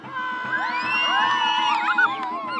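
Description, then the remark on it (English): A crowd of over 200 people gathered in a circle around a burning basket bonfire cheers and whoops continuously, many voices rising and overlapping in loud, excited shouts, with a steady low rumble underneath throughout. “A wave of heat radiates from the fire, and the crowd shuffles back a little.”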